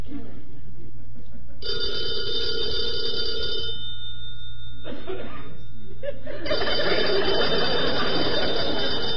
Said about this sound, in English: Answer the phone